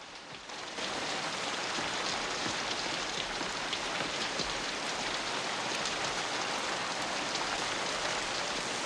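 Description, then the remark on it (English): Heavy torrential rain pours down steadily, a dense, loud hiss of countless drops drumming on surfaces, swelling in after a brief softer moment and continuing unbroken with no voices. “The men line up in the torrential downpour.”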